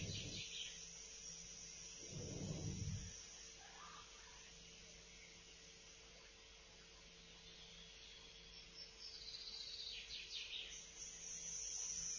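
Birds chirp and sing faintly outdoors, with scattered high calls over a steady insect-like hiss and a brief low rumble early on. No one speaks.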